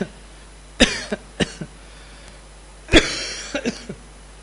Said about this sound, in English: I think this is incense. Upstairs I didn't cough so much. There is so much smoke. Huh? Now it's a little less, but still.